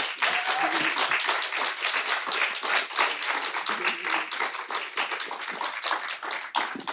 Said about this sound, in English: Could we give her a round of applause?